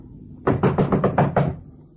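knocking on apartment door

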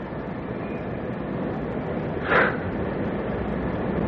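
moving train interior rumble

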